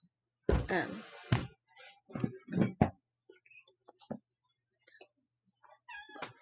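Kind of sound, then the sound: animal, cat meowing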